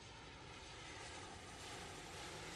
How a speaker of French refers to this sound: Ils prennent un avion pour traverser l'océan Atlantique.